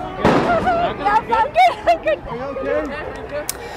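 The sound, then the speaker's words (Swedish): A single sharp, percussive shot of an LAPD rubber bullet, fired at protesters in Los Angeles and hitting a journalist in the leg, cracks out near the start. Agitated shouting and raised voices follow immediately and continue to the end. “Ja, som ni hör, dramatiska scener i Los Angeles, tårgas, brinnande bilar och det vi precis hörde här, det är när en journalist träffas i benet av polisens gummikulor.”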